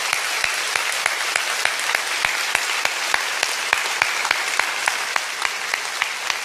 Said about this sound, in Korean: 우리 이번 특세를 완주한 다음 세대 어린이, 청소년, 청년들이 참 많이 있는데요. 그들에게 격려의 박수 부탁드립니다.